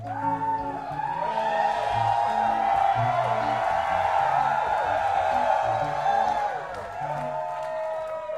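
A large audience at a venue in New Haven screams and cheers loudly, a dense wash of overlapping high-pitched shrieks and whoops that swells for several seconds before easing off toward the end.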